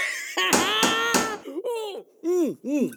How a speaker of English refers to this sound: Knock, knock, knock! Who's there?